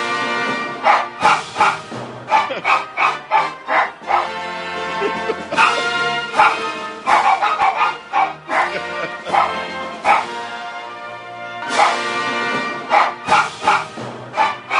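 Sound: dog barking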